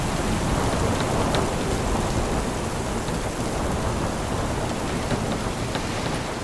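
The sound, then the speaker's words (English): Heavy rain pours steadily throughout, a dense hiss with a deep, constant rumble underneath suggesting thunder, during a storm at sea off Cape Finisterre, Spain, strengthening as night falls. No voices are heard. “As night falls, the storm gets stronger.”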